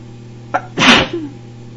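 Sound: sneeze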